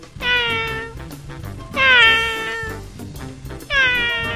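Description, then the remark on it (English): A cat, Dinah, meows three times, loud, each call drawn out and falling in pitch, with short pauses between them over a low, steady background, in a tree at a park. “Alice sits in a tree with her cat Dinah.”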